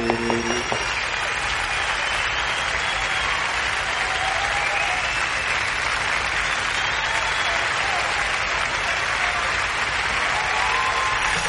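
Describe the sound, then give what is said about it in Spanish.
A steady burst of clapping from a crowd for Pro, who is absent, dense and sustained at an even loudness for around eleven seconds, with no voices standing out. “Entonces vamos a darle un fuerte aplauso para Pro.”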